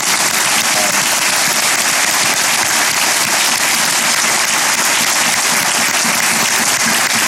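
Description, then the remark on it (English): A large audience applauds steadily for law enforcement, a dense wash of many hands clapping at once, loud and sustained with no pauses and no voices breaking through. “I'm really proud of them, so they deserve some applause for that.”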